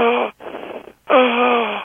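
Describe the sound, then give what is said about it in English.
A voice imitates the noisy, strained sound of trouble breathing air in, which is not asthma: a short, high-pitched crowing rasp, a breathy hiss, then a longer, steady, whining intake, all fairly loud with no talking. “But trouble breathing air in can sound like crowing, or even a noise like this.”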